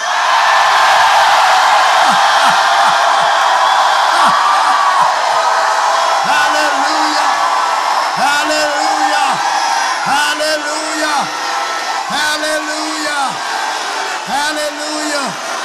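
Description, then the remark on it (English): A large crowd screams and shouts all at once on cue, a loud, sustained roar of many voices, with individual yells and whoops rising out of the din throughout. “And then scream.”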